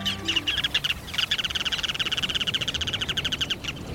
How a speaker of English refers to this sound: What birds are those along the shore? Sandpipers, yes, but which ones? Most are small and brown, darn hard to tell apart. But when you spot the sandpiper named Ruddy Turnstone, you'll have little doubt.